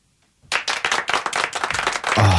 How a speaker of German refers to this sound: Den Applaus, den ihr da hört, den könnt ihr auch hören. Das war Julian Heun in Poetry Blue Moon.